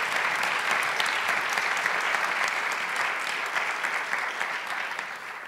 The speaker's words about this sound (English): So for the first and only time during the evening's conversation, before we conclude, I ask that you join me in applause and welcoming our speakers here tonight.